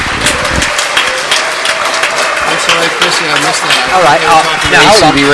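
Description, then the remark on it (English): Steady, dense applause fills the whole stretch, a constant crackle of clapping hands, with voices speaking over it and rising toward the end. “Are these applause for ACB Radio? That's what I'm hearing.”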